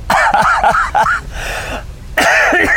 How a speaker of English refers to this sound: So, this has stayed since I was sick for that 2 months and I'm basically better, but cough won't go away.